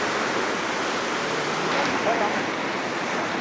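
nature, rushing river water

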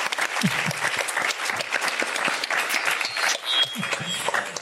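crowd, applause

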